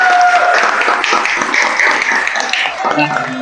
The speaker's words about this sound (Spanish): Aplauso, por favor.